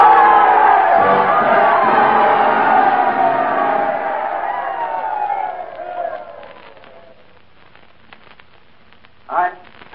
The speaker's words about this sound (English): Then Lou came up to the microphone. He was all choked up. And the crowd rose to its feet and they told him they loved him.